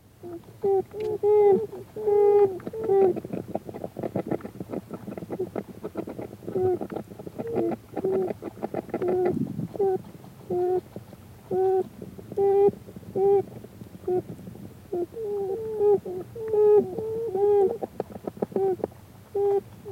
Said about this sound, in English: There is a very special beaver sound that few people know. It is the plaintive moaning of the young, which is usually heard at night, coming from inside the beaver's dome-like den.